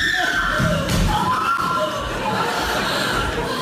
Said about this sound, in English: And she screams.